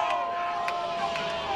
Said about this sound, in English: Runner on the move, fastball down and outside on the corner, and he didn't get the call. And the Fayetteville dugout yelling again.